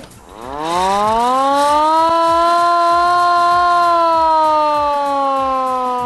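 A hand-cranked siren on an antique, fully manually operated fire wagon from 1933, demonstrated in working order, winds up from a low growl to a steady, loud wail that holds for several seconds, its rich harmonics sustained with only slight wavering as the cranking continues.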